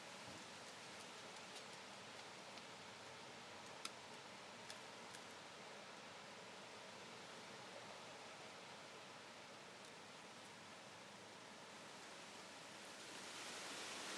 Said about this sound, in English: That's a big gust of wind. In the trees.